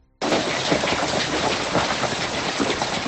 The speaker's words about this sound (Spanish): Una tormenta que duró unos 5 minutos, pero pilló a los murcianos totalmente desprevenidos. En algunos casos, como en el municipio de Murcia, dejó también granizo.